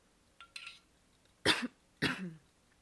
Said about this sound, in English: I'm coughing because I just smoked weed.